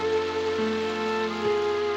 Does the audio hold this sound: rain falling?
yes